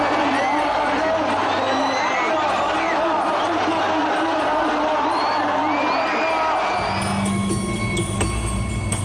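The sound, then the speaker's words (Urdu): A large crowd of supporters cheers and shouts continuously at steady volume around Hassan Nasrallah at a public appearance in Beirut, many overlapping voices and whoops blending into a dense roar, with a brief low rumble entering near the end. “اور یہ سید حسن نصر اللہ اپنے چاہنے والوں کے ہجوم کے درمیان ہے.”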